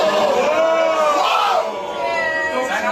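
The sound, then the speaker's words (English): A crowd lets out a long, rising and falling "whoa," many voices blending into one sustained vocal swell that holds steady and dips slightly toward the end. “So they gave him a little bit of a whoa because like, get him,”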